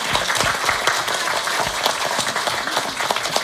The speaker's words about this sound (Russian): Давайте аплодисментами.